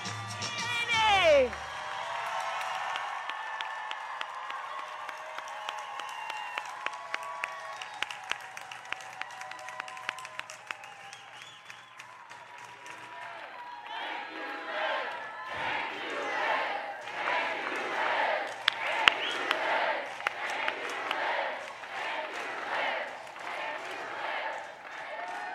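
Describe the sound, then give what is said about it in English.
A large rally crowd in Wisconsin cheers and applauds continuously as Kamala Harris comes out to the podium, with dense clapping and shouts swelling louder toward the end. “This is such an exciting time, going from people chanting, "Thank you, Liz," to now cheering Kamala Harris coming out.”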